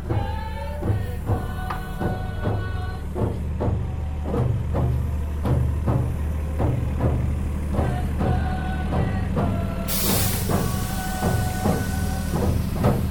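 A bus engine rumbles steadily as the bus rounds a corner, while a dance group on board sings in a rhythmic, pulsing chant over it, and a sharp burst of air hiss cuts in near the end.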